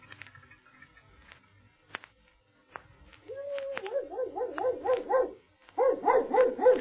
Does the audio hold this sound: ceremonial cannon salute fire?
no